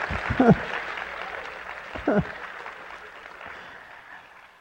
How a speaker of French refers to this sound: Est-ce qu'on peut dire merci Seigneur nous aussi? Est-ce qu'on peut applaudir nous aussi la grâce de Dieu?